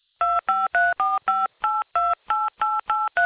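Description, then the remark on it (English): A rapid string of eleven telephone keypad tones, each a short, loud two-note beep with brief gaps between, as a phone number is keyed in to arrange a callback from an energy company's call line. No one speaks. “Okay, to arrange a call back from one of our team, please key in or say your phone number now.”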